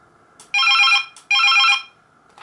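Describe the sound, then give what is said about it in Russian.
A telephone rings twice in quick succession, each bright, warbling burst lasting about half a second with a short gap between. The ringing is loud, with no voices. “А не то, что сейчас такой же звук сейчас доносится, что и на этом телефоне.”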